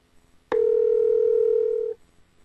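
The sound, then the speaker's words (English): A single steady electronic phone tone from an iPhone calling a phone number after it is tapped, sounding clearly for about a second and a half, starting abruptly and cutting off cleanly, with near silence around it and no voices. “For example, tapping on a web address in an email launches that website in Safari, and tapping on a phone number calls that number.”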